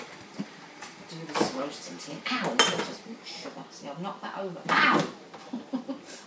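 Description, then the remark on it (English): Uneven clatter and scraping as a big square plate is turned, laid down and wrapped, with a few sharper ceramic knocks amid rustling, while voices murmur in the background. “this plate's too big for the wrap, I think.”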